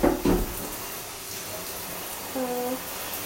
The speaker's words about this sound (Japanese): ちょっとシャワー出すよ。うるさいかな。冷た。もうなんでシャワーってさ、最初出るお湯がさ冷たいの？本当に嫌なんだけど。冷たい。